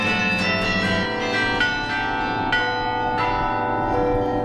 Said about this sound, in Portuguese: Em Bruges, cidade mais antiga que o Brasil, a Torre do Campanário é do século XIII. E o instrumento musical que faz bater os sinos, um carrilhão do século XVIII.